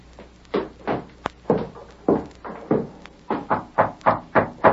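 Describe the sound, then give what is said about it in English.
A series of about a dozen firm knocks on a door, landing in uneven clusters and growing quicker toward the end, fairly loud, with no voices. “Who's there? Open the door.”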